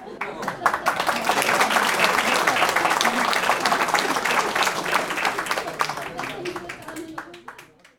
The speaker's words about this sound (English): Please join me once again in a round of applause